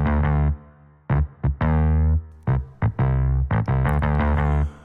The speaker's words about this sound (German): Starkes, tragendes Bassriff mit Verzerrung und sogar mit ein bisschen Hall.